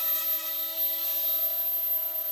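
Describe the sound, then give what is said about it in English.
A drone with damaged blades buzzes steadily, its layered motor tone wavering slightly, with a thin, high-pitched whistle riding on top. No one speaks. “But if you listen, that's what the vibration is that you can hear, the funny whistle. It should just be humming, and it's not.”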